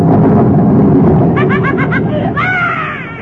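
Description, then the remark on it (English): A loud, deep rumble of thunder rolls steadily through the whole moment, with a quick run of short voiced cries and a rising wail breaking over it toward the end. “I started to laugh, but the thunder scared me.”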